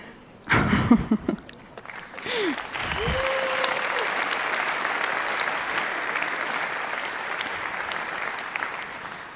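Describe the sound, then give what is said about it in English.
An audience breaks into steady applause at the start of a presentation, after a short intro video: a dense, even wash of many hands clapping, preceded by a brief burst of electronic whooshes and sweeping tones. “That applause goes to my amazing hacker who did this little video as a start to my presentation.”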